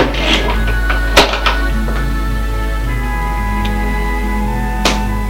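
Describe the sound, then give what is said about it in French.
A door shuts with a single solid thunk, followed by a couple of lighter knocks, all over a steady low electrical hum that runs throughout. “Il a fermé la porte derrière lui.”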